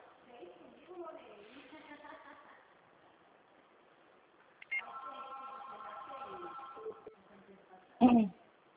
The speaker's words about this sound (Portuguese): Amiga, eu vou atender um telefone aqui, mas eu já volto aqui na linha, tá?